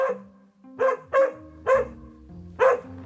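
A dog barks four times in a loose, uneven rhythm. It is running around on a tether line in the unplowed yard of a house. The sharp barks are clear, with a faint low hum in the background and no voices.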